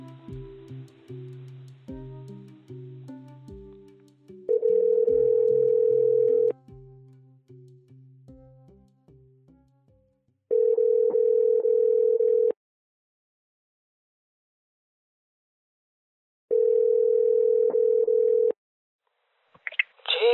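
A phone call rings out on the line: three steady, two-second ringback tones separated by long silent gaps, preceded by a brief string of electronic connecting notes and ending with a click.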